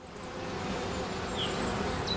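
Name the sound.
honeybees buzzing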